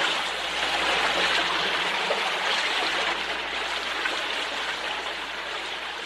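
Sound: flowing water stream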